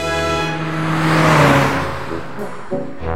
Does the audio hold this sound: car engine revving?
yes